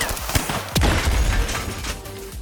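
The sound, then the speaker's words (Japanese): An exchange of gunfire: sharp gunshots ring out from one side and are answered by fire from another, a lighter crack followed by a louder blast, then a dense rumbling din of scattered fire and echoes continues underneath. No one speaks. “次第にその音は増え、けたたましい銃声となった。一方から銃が撃たれ、それに応射するように別の方から発砲される。”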